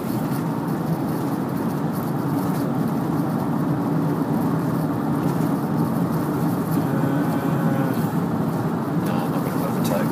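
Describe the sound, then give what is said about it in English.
Steady road noise from inside a moving car on a highway with cruise control set to 110: a constant low rumble and hum of tyres and engine, unbroken for the whole stretch. “Cruise control onto 110, but the cars in front of me aren't going particularly fast, so.”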